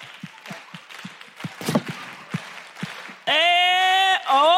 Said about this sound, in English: Maybe you could just sort of percussion? I don't know. Maybe you could just clap?